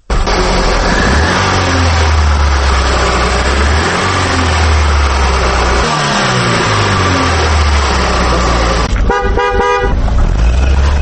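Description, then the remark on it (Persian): Dense street traffic in Dushanbe, Tajikistan, on a road where about 50,000 vehicles of various kinds move day and night, with engines rumbling and revving, vehicles passing continuously, and a loud car horn honking near the end. No one speaks. “در جاده آیان حدود 50,000 نب های مختلف افتومبیل ها شب و روز حرکت می کنند.”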